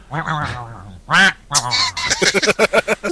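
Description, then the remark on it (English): A person's voice imitates a duck, making nasal, honking quacks: a few drawn-out calls followed by a quick run of shorter ones, fairly loud. “Quack, quack.”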